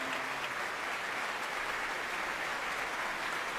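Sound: concert audience applause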